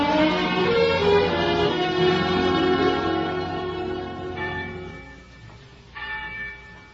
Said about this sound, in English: And every day the winds carried you the clangoring of the church bells, telling the news of some great victory. They were ringing that day when you came home.